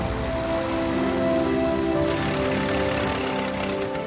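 A small plane's engine drones steadily as it touches down in an open field and slows to a stop, layered humming tones over a broad, rough rumble that holds a fairly constant loudness throughout, with no voices.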